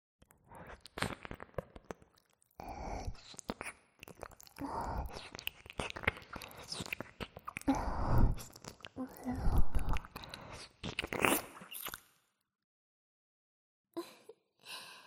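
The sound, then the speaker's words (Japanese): Soft, wet squelching and smacking sounds come in an irregular, continuous stream with a breathy, whispery texture, then stop for a moment before a brief final burst. “そして水音。”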